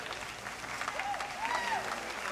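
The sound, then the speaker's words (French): A dense, steady murmur of a crowd in a hall, heard from the kitchens behind it, with a few rising-and-falling whistles cutting through, the loudest swooping twice near the end. “J'entends déjà la rumeur de la salle et les sifflets.”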